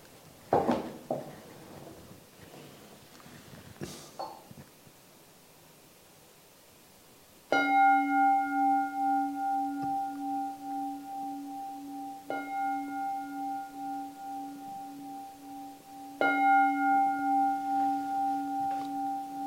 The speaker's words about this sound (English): I'm gonna ring the bell 3 times and we can end the meditation for tonight.